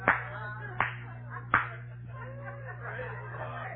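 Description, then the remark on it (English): Three sharp hand claps at a slow, uneven pace, demonstrating how white folks clap, set over a low steady hum and a murmur of soft chuckling and laughter. “White folks don't clap like y'all. White folks clap like this.”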